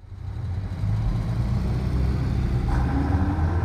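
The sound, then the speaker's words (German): Two heavy trucks rumble along the motorway from Hamburg to Bremen, Germany, in winter 1946, a steady low engine drone filling the scene with a faint whine rising partway through; no one speaks. “Die Autobahn von Hamburg nach Bremen, irgendwann im Winter 1946. Hier sind gerade zwei Lastwagen unterwegs.”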